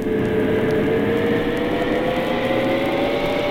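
A steady, loud mechanical drone of a submarine's engines running as it dives, with a constant low rumble and faint whirring tones holding level throughout, no voices present.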